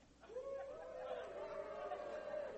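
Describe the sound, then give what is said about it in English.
An audience gathered downstairs in a church fellowship hall for a practice service on Palm Sunday, cheering together: a muffled, sustained roar of many voices that rises after a brief quiet start and holds steady for a couple of seconds. “So everybody in the fellowship hall, I can't actually hear you right now, but you want to give me a big cheer?”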